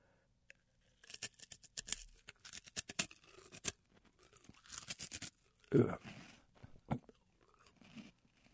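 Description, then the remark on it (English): Someone crunches a whole edible insect, eating it all at once: a quick series of sharp, dry crackling bites and chewing noises, mostly alone, with a brief louder crunch burst partway through and faint voice sounds. “Go for the whole thing all at once and get that crunch factor and get the explosion of taste all at once.”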